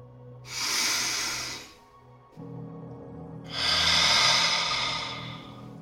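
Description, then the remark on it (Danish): A deep, airy breath in, a short pause, then a longer, slow breath out, clearly audible over a faint, steady low hum, taken during a guided gratitude meditation. “Tag nu en dyb indånding, og i det du ånder ud, så lukker du øjnene.”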